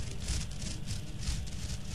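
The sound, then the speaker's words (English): A stiff brush scrapes back and forth over artificial turf in a steady rhythm of about five hissing, scratchy sweeps, with a low rumble underneath and no voices. “Does this sound like Sentra branded 3M AstroTurf?”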